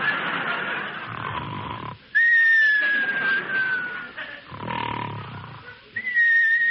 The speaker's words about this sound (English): Well, here we go again. Now come the whistles.